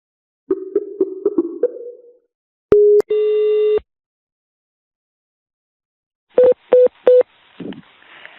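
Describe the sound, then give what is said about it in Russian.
Electronic telephone keypad tones as a call is dialled from home to the Privolzhsky Vakhitovsky military enlistment office in Kazan: a quick run of short beeps, then a couple of longer steady tones, and after a pause three evenly spaced key beeps, clear with no talking. “ты кому звонишь?”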